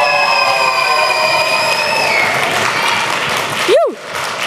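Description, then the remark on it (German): Loud, sustained audience applause given as a 10-point score for a poet's text, with steady high whistling and cheering over the clapping and one sharp rising-and-falling whistle near the end. “Bitte merkt euch diesen 10-Punkte-Applaus unbedingt für alle Poeten und Poetinnen, die heute auftreten werden.”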